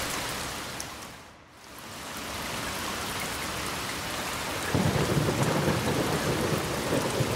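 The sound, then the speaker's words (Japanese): A summer evening thundershower played from an app through earphones: steady, dense rain hisses throughout, briefly easing before returning, and then a deep rolling rumble of thunder swells in and continues beneath the downpour to the end. “これが夏の夕立”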